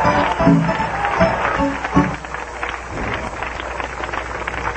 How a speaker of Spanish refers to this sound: A su nombre, dale ese aplauso con gloria a Dios y aleluya.